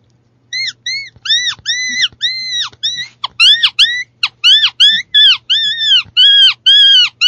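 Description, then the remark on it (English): A rapid series of high, thin mouse squeaks blown on the very tip of a peewee critter call, an open reed call with an exposed reed. Each short chirp rises and falls in pitch, coming in quick uneven bursts with brief pauses and no talking. “The critter call, the peewee critter call, get on the very, very tip of the critter call.”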